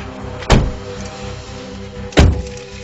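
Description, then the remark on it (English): Two heavy car doors slam shut in quick succession, each a solid thunk about a second and a half apart, over a low steady engine-like hum. “Just get in the car.”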